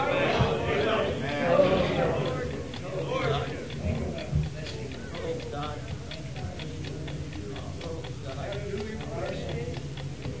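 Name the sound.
clock ticking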